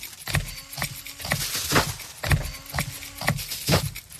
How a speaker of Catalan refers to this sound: Atenció, i ara gravaré el paper de plata. Vale, tenim això, gravo el paper de plata. De plata, perdó.